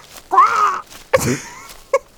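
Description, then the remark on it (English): A voice imitates a loud, strained squawk: a long nasal honk, a rougher second squawk, then a brief clipped yelp, with no talking. “However, you are unable to muster any words, only letting out a loud squawk.”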